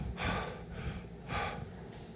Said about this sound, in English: Breathing, okay? Yeah, I was doing it loud so you could hear it.